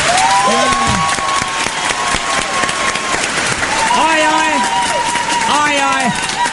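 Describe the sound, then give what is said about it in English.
A loud, steady burst of crowd applause fills the whole stretch, dense clapping running continuously with voices whooping and calling out over it. “Everybody should applaud right now.”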